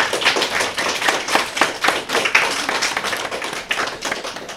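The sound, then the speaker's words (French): A burst of applause from a group on the game show Bubble Game, for contestants who answered a question correctly, dense overlapping hand claps forming a steady crackling wash of sound at moderate loudness, with no voices on top. “On peut les applaudir.”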